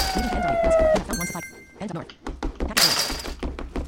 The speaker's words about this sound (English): Hit this crate here.